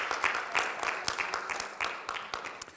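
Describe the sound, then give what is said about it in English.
A church audience at Baltimore Christian Faith Center in Randallstown, Maryland, claps for the Lord, a dense crackle of many hands with a loose, uneven rhythm, steady and fairly loud throughout with no voices standing out. “Give the Lord a clap, church.”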